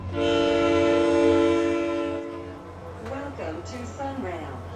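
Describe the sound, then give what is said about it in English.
A SunRail commuter train in the Orlando area sounds a long, loud horn blast over a steady low rumble during a morning commute, then the horn cuts off and voices talk in the crowded train car, where a bike has been rolled on, as the train keeps rolling. “During a recent morning commute, … rolled his bike into a pretty crowded train car.”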